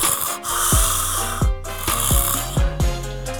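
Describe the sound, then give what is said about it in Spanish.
A voice imitates the loud snoring of a person sleeping with mouth wide open, a rapid series of harsh, buzzing snorts with falling pitch, prominent over a hissy background. “Ya una vez dándole al ombligo, estaba roncando con la boca abierta así a las anchas, ¿no?”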